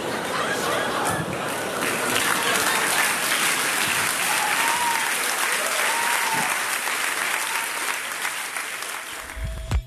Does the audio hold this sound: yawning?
no